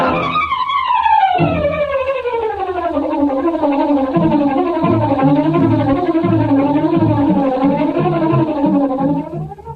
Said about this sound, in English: Say, listen to that. What is it? The car. It's coming out of the alley. It's the Green Hornet.